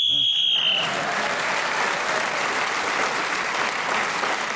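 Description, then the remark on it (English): A single shrill, steady whistle blast lasting under a second, blown to end a player's turn, immediately swallowed by loud, sustained applause from an audience that continues to the end. “So Julian Carey was speaking as a whistle when gained the extra point.”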